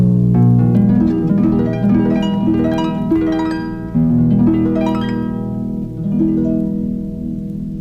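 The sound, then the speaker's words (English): A harp plays a flowing run of plucked notes, each ringing and overlapping the next, fairly loud for several seconds with no voices. “The sound of a harp.”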